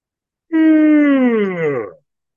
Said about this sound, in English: Again, my yawns are not fatigue. They are energetic movement.